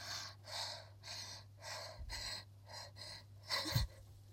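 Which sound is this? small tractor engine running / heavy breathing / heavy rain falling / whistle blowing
heavy breathing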